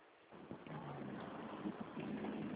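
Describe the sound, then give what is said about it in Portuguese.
A motorcycle running with heavy wind noise buffeting the microphone, a steady loud rumble with a low engine drone underneath, muffled and band-limited, heard over a phone call made by the rider before he stops the motorcycle. “Acabei de parar a moto agora que eu estou te escutando melhor.”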